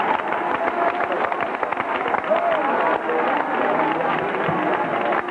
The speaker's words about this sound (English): Would you clap your hands again for just a moment? And would you shout with your voice of triumph and victory in the presence of the Lord?